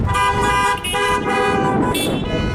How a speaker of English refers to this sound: If I had a horn, I'd be beeping with you.